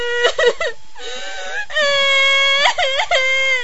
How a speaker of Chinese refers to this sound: 嘿，怎么又哭上了？别哭，朕恕你无罪，好好说。